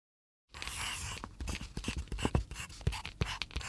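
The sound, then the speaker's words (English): A yellow pencil scratches across paper in quick, uneven strokes, drawing a sun; a dry scribbling texture with no talking. “What shall I draw with the yellow pencil? Draw the yellow sun.”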